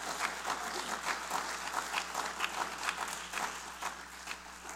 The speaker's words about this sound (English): Oh, you ought to give the Lord a hand clap.